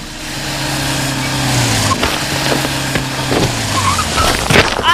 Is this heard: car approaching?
yes